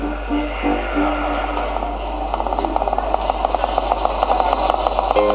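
The small engine of an early motor scooter, the Scootamota, a kind of motorized kick scooter, runs steadily, its rapid, buzzing put-put growing sharper and more rhythmic as it continues, with a faint low hum underneath and no one speaking.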